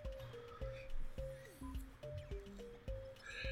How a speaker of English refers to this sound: So as you're kind of going through your tour, you're back up by the kitchen there, and you still hear the sounds of cooking.